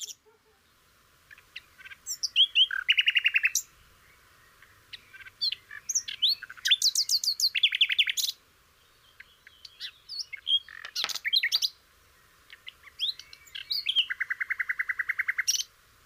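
Small songbirds chirp and trill in repeated bright bursts, each phrase lasting a second or two with short pauses between, clear against a quiet background.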